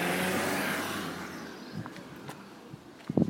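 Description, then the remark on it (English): A car rolls past at low speed, its broad engine and tyre noise fading steadily away, followed by a few faint scattered clicks and knocks. “In that car's way? Is that why it's going slowly?”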